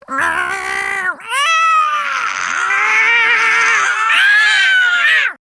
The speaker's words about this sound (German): Schließlich fauchte Kuhn auf, sprang hinter sie und Rix hörte nur noch ein einziges unverständliches Gejaule und Geschrei der Katzen.